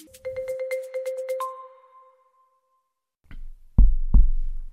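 An electronic telephone ring: a quick burst of pulsing tones ending in a held note, then a pause and a few low, heavy thumps. No one speaks.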